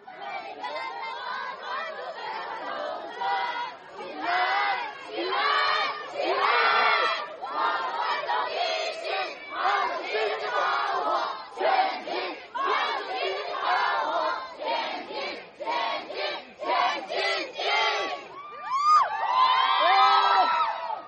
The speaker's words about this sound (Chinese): 但是大家从我们刚才放的这个视频里可以感受到现场啊警民冲突的烈度。这冲突从白天啊一直延续到晚上啊，然后现场我看有还有一些民众啊围着警察啊举着手机啊唱国歌。